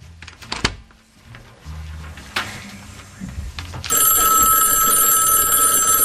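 A few dull thumps and shuffling noises, then a telephone bell bursts into a loud, bright, rattling ring that continues without pause to the end.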